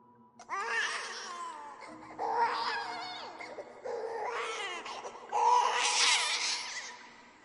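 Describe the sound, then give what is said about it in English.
An animal gives a series of four drawn-out, wailing cries that mimic a crying baby, each rising and falling in pitch with brief pauses between, the last one loudest. No one speaks. “She can also imitate a baby crying, and it's believed that she does this to lure out her prey.”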